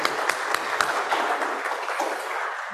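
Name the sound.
audience applause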